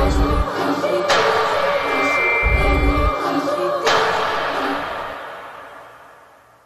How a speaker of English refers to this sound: Here you can listen to it without the percussive elements, and then with the percussive elements of banging doors and bass thumbs.